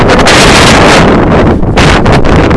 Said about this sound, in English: It's a bit windy. I'm just coming back from class now, and I have my umbrella out, right? It's a very big, I'm not sure if you can hear it,